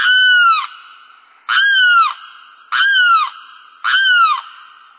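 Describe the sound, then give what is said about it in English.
A limpkin, a tall, brown, long-beaked wading bird, gives its eerie, wailing cry four times at a steady pace in a wooded swamp, each loud, harsh call sliding downward at its end, clear with no voices. “It's a wading bird called a limpkin, tall, brown, long-beaked. Its eerie cry is unmistakable.”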